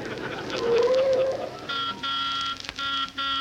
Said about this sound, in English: Driver, you didn't have to blow the horn.